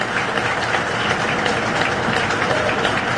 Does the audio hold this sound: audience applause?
yes